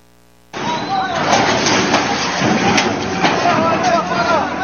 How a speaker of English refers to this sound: So let's go out to break with a turkey and a man with a giant backhoe crushing buses.